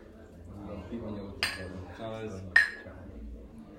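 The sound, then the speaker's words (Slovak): Glasses clink together in a toast, two bright, ringing taps about a second apart, the second louder with a short chiming tail, over a low murmur of voices. “Ale podľa mňa by sme si mali nejako štrknúť, hej, lebo tradične.”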